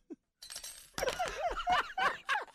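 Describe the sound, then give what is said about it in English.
A sound effect of metal silverware being dropped, clattering onto a hard surface in a quick burst of bright clinks and rattles, several overlapping jangling impacts over about two seconds, fairly loud and with no talking. “Just drop your damn silverware.”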